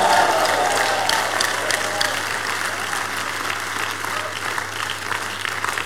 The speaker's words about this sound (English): Stand to your feet. Give the Lord the biggest clap offering. Come on, give him the biggest clap offering, everybody.